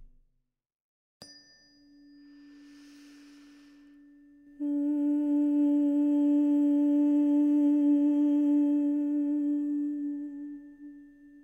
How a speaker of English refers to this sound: Keeping the mouth closed and your tongue lying relaxed up against your palate, let the exhalation passing through the larynx turn into humming.